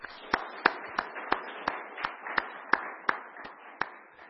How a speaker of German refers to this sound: Und ich glaube, da darf man mal einen kleinen Applaus auch machen.